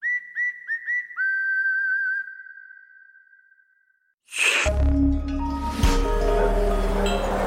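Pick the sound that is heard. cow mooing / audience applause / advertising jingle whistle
advertising jingle whistle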